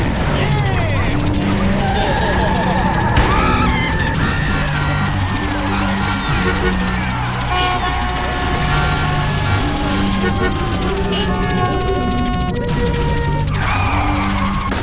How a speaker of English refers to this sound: The 5 o'clock traffic jam.